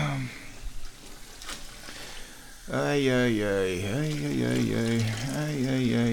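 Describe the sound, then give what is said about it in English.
A kitchen tap runs with a steady, hissing stream of water to refill a cat's water, heard alone at first, then a voice starts talking over the continuing flow. “So, we're going to get the kitty water going.”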